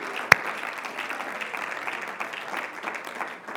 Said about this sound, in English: Somebody clap your hands to the Lord for just a moment now.